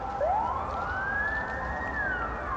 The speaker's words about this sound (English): Sirens of ambulances, the enforcers, fire brigades and other special vehicles that usually signal extraordinary situations and emergency have intensified and constantly reminded that the situation has become a permanent emergency.